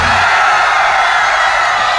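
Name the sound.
people screaming loudly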